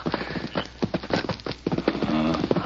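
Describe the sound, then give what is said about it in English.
Several horses being brought up for riders clip-clop in a brisk, uneven rhythm, many overlapping hoofbeats on hard ground for a few seconds, fairly loud with no one speaking. “Bring up the horses”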